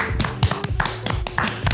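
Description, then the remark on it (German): An audience, asked to clap along, claps in a quick, steady rhythm, about eight sharp claps, with low background rumble and no talking. “Könnt ihr mal bitte mitklatschen?”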